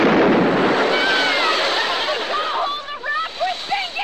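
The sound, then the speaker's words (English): A flare gun from a survival kit fires with a loud burst that trails into a long, rushing hiss, fading as voices cry out over it. “There's a flare gun here in the survival kit.”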